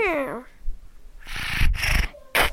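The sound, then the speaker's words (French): A single short, high meow that slides downward in pitch, followed by a stretch of breathy, hissing noise bursts and a sharp burst at the end. “Pour entrer en communication avec les chats, toujours miauler ou ronronner, mais ne jamais feuler.”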